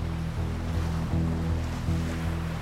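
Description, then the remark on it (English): Steady surf rolls and washes continuously, a broad roar of sea waves far below a high cliff, with a low rumbling undertone and no voices. “They are walking along the cliff by the sea.”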